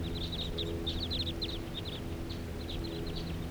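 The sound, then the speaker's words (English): A flock of about 8 birds calls steadily as they settle down, with many short, high chirps overlapping in quick, irregular bursts over a constant low rumbling background. No one speaks. “Flock of about 8 birds, and they're settling down here now.”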